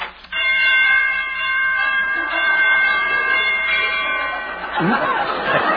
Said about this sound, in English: Your chimes need tuning.